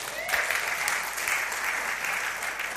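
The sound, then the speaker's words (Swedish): Sustained applause from an audience, a dense, steady wash of many hands clapping together, fairly loud and continuous for the whole few seconds with no voices standing out. “Det är väl värt en applåd.”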